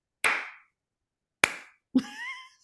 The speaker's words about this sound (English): I got slow clapped by a middle school kid.